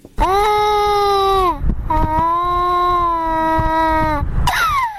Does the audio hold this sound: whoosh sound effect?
no